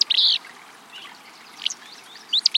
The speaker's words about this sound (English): we hear what sounds like a sneeze in a dense thicket. Should we reach for binoculars? Or maybe a handkerchief? This sneezy song belongs to a willow flycatcher, a small gray-green bird singing from atop a nearby shrub.